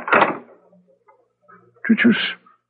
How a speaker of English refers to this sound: Did you see that? The door opened by itself. Obviously, we are being invited in to have a look round.